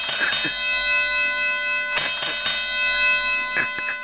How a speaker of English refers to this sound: We got the bell. The bell, man, I'm glad the bell is back. Can I get the bell one time? Just for old time's sake. Can I get the bell one time?